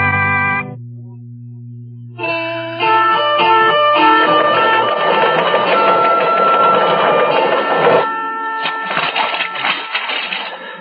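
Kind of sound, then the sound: machine, teletype machine clattering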